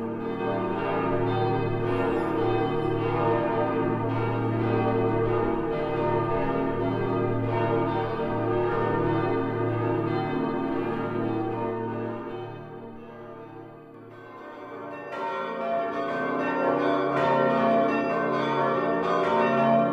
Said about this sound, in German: dreischiffige, über 100 Meter lange Basilika gehört zu den Meisterwerken der Gotik. Ihren 117 Meter hohen Westturm übertrifft an Höhe kein anderer in Ostdeutschland. Im fünfstimmigen Geläute haben sich zwei kostbare mittelalterliche Glocken erhalten.